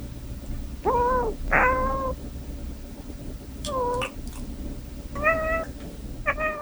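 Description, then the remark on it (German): Cats lying in the warm sun meow several times in a row, short rising and falling cries that come in pairs, clear over a low, steady background hum, with no one talking. “Katzen, die gelangweilt in der warmen Sonne liegen.”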